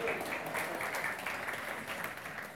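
An audience breaks into steady applause, a dense wash of many hands clapping at once, sustained at an even, moderate level for a few seconds with no voices standing out.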